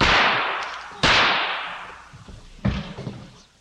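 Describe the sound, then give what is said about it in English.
Three sharp, loud gunshots are fired at a man at point-blank range, spaced unevenly over a few seconds, each one a sudden crack followed by a long fading echo, with no voices. “And fired several shots at point-blank range, virtually,”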